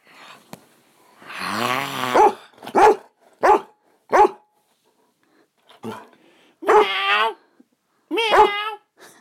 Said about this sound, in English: Just wanted to show you how gobby my dog is. And now she's gone quiet because she knows I'm booing.